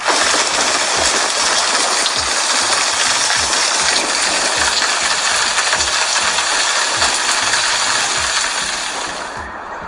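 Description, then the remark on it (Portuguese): Heavy rain pours down in a steady, dense hiss across the whole clip, with scattered low thumps and patters of drops hitting surfaces, easing slightly at the very end. “E durante a gravação do tutorial, ocorreu uma forte pancada de chuva.”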